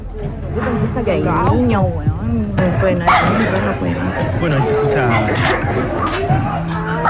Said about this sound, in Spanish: Se escucha algunos perros, algunos vecinos corriendo.